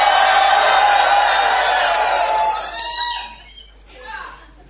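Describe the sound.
An audience at a show at the Galileo shouts together on a count of three in one loud, sustained roar of many voices for about three seconds, then it fades into scattered trailing cries and a brief final whoop.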